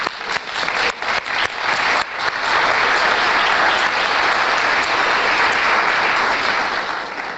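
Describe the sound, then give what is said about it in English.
An audience in a parish breaks into applause for the parish priest, starting with a few scattered claps in the first two seconds before swelling into a dense, steady wash of clapping that holds loud and even to the end. “A man of fasting, of prayer, and applause for that man.”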